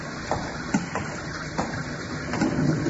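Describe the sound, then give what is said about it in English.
Steady rain hisses without a break outside a doorway, broken by a few sharper spatters and drips now and then. No one speaks. “Let's step into the doorway here, out of the rain.”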